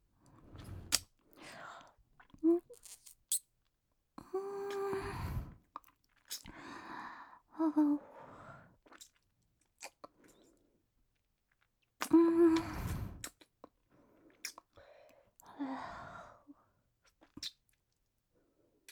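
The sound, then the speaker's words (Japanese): Wet mouth sounds of sucking and slurping, imitating a vampire drinking blood, come in irregular bursts with brief pauses, like someone greedily drinking, occasional soft breaths between them and no talking. “ちょっと吸いすぎちゃったかも。”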